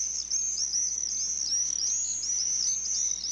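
Shrill, high-pitched screeching from several common swifts, the overlapping calls running continuously and wavering in pitch, fairly loud with no voices present.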